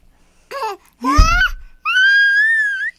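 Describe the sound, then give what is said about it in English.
A baby girl eating a waffle lets out three high-pitched shrieks, each rising or wavering in pitch, the last one long and sustained, with short pauses between them and no talking. “You're shrieking.”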